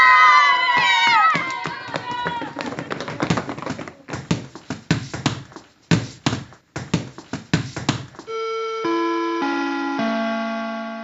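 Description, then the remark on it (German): Children's excited voices and a rapid clatter of footsteps echo through a stairwell as school lets out at 12 or 1 pm at the Heinkrabenschule, followed by a ringing chime of several descending bell tones from the school gong. “Um 12 oder 13 Uhr ist Schulschluss. Dann klingt es im Treppenhaus so.”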